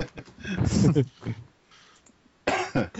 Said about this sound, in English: Yeah, I am a little under the weather still myself, so I will be coughing and hacking through this.